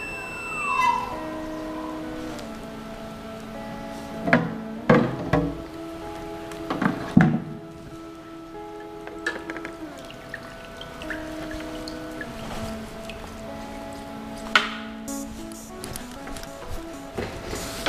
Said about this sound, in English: Okay, now the machine is rinsing off all the extra resin with the isopropyl alcohol.